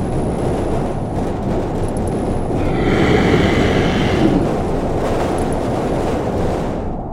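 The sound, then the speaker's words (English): A monster behind a door roars and growls loudly and continuously for about seven seconds, swelling harsher in the middle before cutting off at the very end, with no voices. “Stopped. No growling, no roaring, no banging. Silence.”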